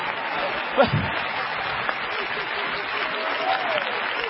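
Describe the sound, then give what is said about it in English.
A crowd claps steadily in a dense, continuous patter of applause, with a brief louder thump near the start and murmuring voices faintly mixed in. “Don't clap too loud.”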